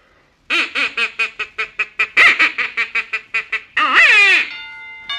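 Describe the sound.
A duck call imitating a duck is blown in a quick, steady run of about a dozen loud, nasal quacks, finishing with a longer wavering squawk and a short final blip; clear, with no talking.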